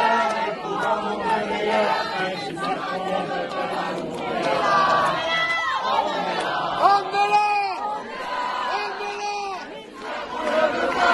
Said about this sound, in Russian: А камера ходит кругом и показывает, значит, как там эта пестрая толпа без курток напротив полиции стоит и молчит, и даже не подтанцовывает.